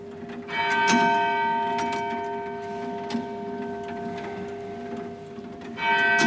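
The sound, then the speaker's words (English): A mechanical clock strikes the hour on its bell as its striking motion is released, a loud sustained metallic ring with long humming overtones, re-struck near the start and again at the end, with clicking mechanism noises. “Quite a loud bell.”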